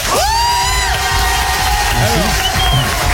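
An audience cheers and whoops loudly for a member of the show's team at the jeu des 5 mots game, with high shouted voices rising over a dense wash of clapping and crowd noise that stays steady throughout.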